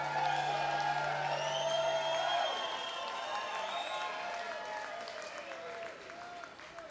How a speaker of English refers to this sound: Hailing from Beloit, Wisconsin, by way of the Yucca Valley. Please give a rousing applause